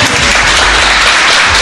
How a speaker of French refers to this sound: Et d'abord, merci au public d'être venu si nombreux. Et il va nous applaudir là. Allez !